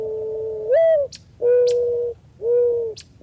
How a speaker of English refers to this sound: She's accompanied by white-winged doves and mourning doves.